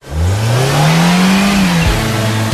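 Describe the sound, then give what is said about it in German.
A car engine revs up, its pitch climbing and holding steady before dropping sharply near the end, loud and continuous with no voices. “Jetzt nochmals Gas geben.”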